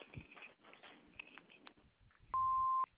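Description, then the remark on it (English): A single loud answering-machine beep, a steady electronic tone lasting about half a second, sounds near the end after a stretch of faint, muffled background noise. “Leave a message after the beep and we'll give you a call back.”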